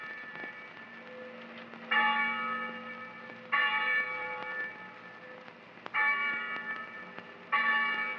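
chapel bell ringing

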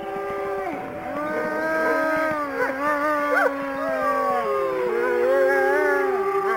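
wolves howling

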